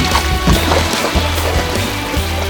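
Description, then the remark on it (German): Water rushes steadily down the narrow plastic tunnel of the Big Surfer water slide in a continuous, churning wash, with a low rumbling undertone and splashy sloshing on top, loud throughout and without voices. “Ununterbrochen strömte Wasser den engen Plastiktunnel hinunter.”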